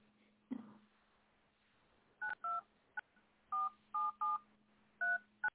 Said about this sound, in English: Pressing all those tones, one phone, next phone, replace phone, new phone, what phone, there's the phone.